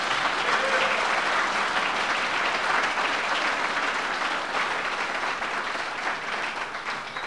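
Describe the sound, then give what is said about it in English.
An audience claps and applauds steadily for several seconds for the people who just sang, a dense, even wash of hands that stays loud throughout and eases slightly near the end. “I want to give these folks who sang a hand. Would you please clap for them?”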